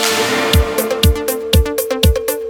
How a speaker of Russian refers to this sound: Будильник. Включили.